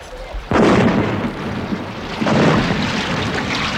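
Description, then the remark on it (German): Two heavy ship cannon blasts fired by gunners at the ship Natividad, the first sudden and loud, the second following about two seconds later, each leaving a rolling, rumbling roar that lingers without any voices. “Kanoniere! Gebt der Natividad den Rest! Gebt Feuer!”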